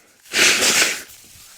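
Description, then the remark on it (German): A single harsh, breathy cough bursts out for under a second, noisy and hissing in the upper range, with no talking around it and only faint background afterward. “Tut mir leid, das kommt jetzt durchs Husten.”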